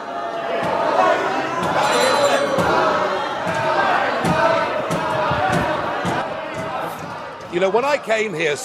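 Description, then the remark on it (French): A large parliament audience erupts in sustained booing and jeering at Nigel Farage as he begins to speak, a dense continuous wall of voices, with a single speaker's voice emerging near the end as the noise fades. “Tandis que le président de la Commission est soutenu par des applaudissements nourris dans la salle, Nigel Farage est lui hué lorsqu'il commence à parler.”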